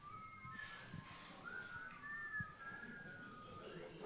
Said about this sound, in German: Wenn ihr wollt, könnt ihr auch die Jeopardy-Melodie dazu pfeifen.